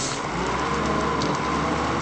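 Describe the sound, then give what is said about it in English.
A bulldozer's diesel engine rumbles steadily at a construction site in Sulaymaniyah, northern Iraq, where it is digging out the basement for a mobile phone company's headquarters, a loud, continuous low drone with a gritty mechanical hiss on top and no voices. “Other Iraqi cities may echo with the sound of bombs, but in Sulaymaniyah, you're more likely to hear the sound of a bulldozer.”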